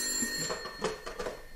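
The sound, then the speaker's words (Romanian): A telephone bell rings steadily throughout, a bright metallic trill holding its shrill tone at moderate loudness with no voices present. “Poftim, telefonul ăsta sună mereu.”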